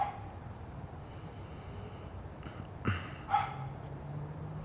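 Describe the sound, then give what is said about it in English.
A dog barks twice, a short pair of muffled woofs, over a steady, high-pitched drone of crickets chirping through the night air. “Hear that dog barking?”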